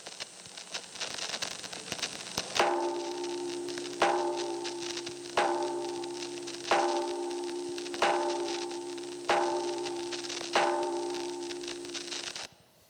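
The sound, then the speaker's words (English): The Liberty Bell at Independence Hall in Philadelphia is struck seven times with a mallet by the city's mayor on D-Day, at a slow, even pace, each heavy clang ringing and decaying into the next over a steady background hiss, with no voices. “That was the mayor of Philadelphia ringing the bell with that mallet on D-Day.”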